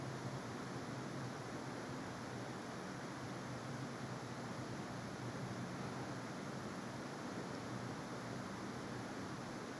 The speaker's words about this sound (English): The river's gentle rhythm moves with your breath, echoing through your body.